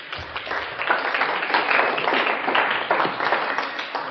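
An audience breaks into steady applause, many hands clapping together in a dense, even wash of sound that holds at a fairly loud level for about four seconds, with no voices.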